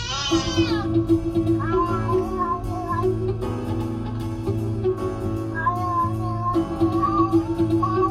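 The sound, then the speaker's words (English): A cat meows repeatedly in drawn-out, wavering cries, several in a row at a steady loudness, over a dense, continuous background of other sound. “5 minutes of a cat.”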